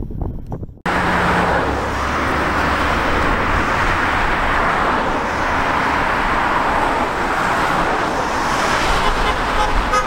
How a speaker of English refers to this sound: See that bus going past there? That one there? That bus? They run every 15 minutes from Paradise Point to Kingscliff.